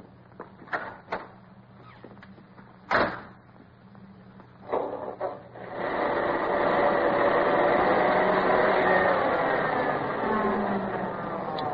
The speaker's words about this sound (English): Yeah, it's a snappy little bus, this sport roadster of yours. It's getting pretty old. It's a 39. Looks like it just came out of the factory.